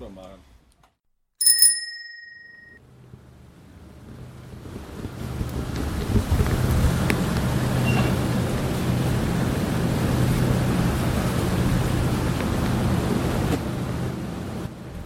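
A sharp bell-like ding rings out early, then steady low rumbling of a ship's engine mixes with gusting wind buffeting the microphone, a broad continuous roar that holds for the rest.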